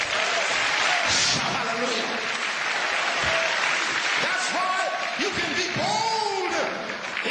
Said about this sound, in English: Clap loud.